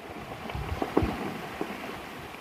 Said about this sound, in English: In the background, we can hear lots of melting glacier. Yeah, that's true. Of course, when it starts to become warmer, the water of the glacier has to go somewhere of the snow that's on top of it. And this water is flowing into the fjord right here.